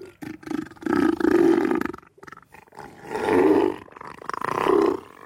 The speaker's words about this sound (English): We begin on the Australian island of Tasmania, where a giant seal is bringing laughter and joy to millions of people.